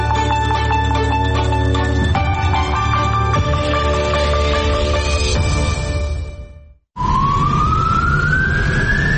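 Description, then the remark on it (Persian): An ambulance siren wails loudly over steady traffic rumble in a city in Iran during the coronavirus epidemic, then cuts out briefly before a single rising siren tone sweeps upward and holds, continuous with no voices. “آمبولانس های سرگردان در شهر بیمار دارند ولی بیمارستانی برای پذیرش بیمار نمی‌یابد.”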